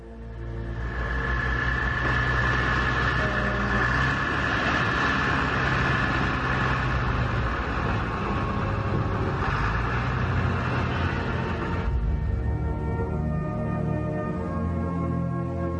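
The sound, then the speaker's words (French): A truck engine, the first truck of a patrol convoy, roars steadily as it sets off toward the base: a loud continuous rumble with a tonal whine, easing slightly near the end as it pulls away. “Allez-y, premier camion. Go! Go!”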